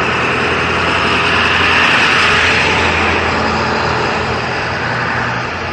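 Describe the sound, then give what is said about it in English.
A loud, steady engine rumble fills the whole stretch, swelling slightly in the middle as a heavy truck rolls by, then easing off a little toward the end. “There's a truck coming.”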